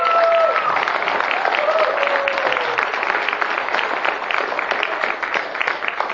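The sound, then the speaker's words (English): A crowd claps steadily and loudly for several seconds in applause for youth leaders, a dense patter of many hands with a few brief cheers or whoops rising over it near the start. “And so I want to give a little round of applause or shout out to our youth leaders.”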